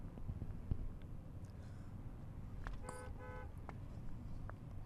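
A car horn gives a short honk in the middle of steady, low traffic rumble, with no one talking.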